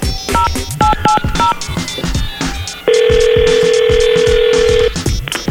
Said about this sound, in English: I'm thinking about doing a little phone call here. I think you'll like this one. Let's do a hype phone call real quick.